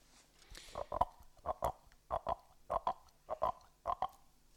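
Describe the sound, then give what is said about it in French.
Wet fingers rub a lightly wetted coffee cup, as if cleaning it, to mimic a toad, producing a steady series of about six paired, mid-pitched croaking squeaks, each double burst evenly spaced, with no talking over it. “mais vous pouvez prendre une tasse à café, que vous allez mouiller légèrement, et vous allez mouiller vos doigts aussi.”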